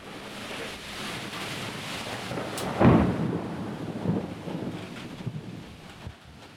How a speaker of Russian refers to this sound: А тут откуда ни возьмись шторм.